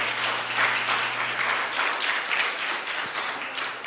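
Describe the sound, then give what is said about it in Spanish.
An audience applauds the King of Kings and Lord of Lords, Jesus Christ, a dense wash of many hands clapping at a fairly even level for several seconds, with a faint low hum running underneath. “Dele un aplauso al Rey de Reyes y Señor de Señores.”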